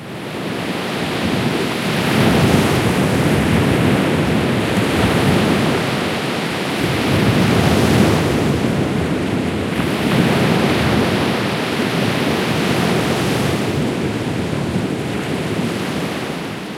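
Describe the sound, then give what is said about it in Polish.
Steady roar of Baltic Sea waves washing ashore, broad and continuous with gentle swells rising and falling, fairly loud, with wind rushing over the water and no voices. “Posłuchaj odgłosów morza, Bałtyk.”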